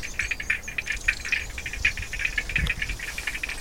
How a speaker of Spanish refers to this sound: En este bosque todo suena. Son ranas cantando.